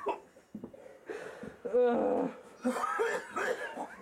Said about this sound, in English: Yeah, he's just coughing fucking powder.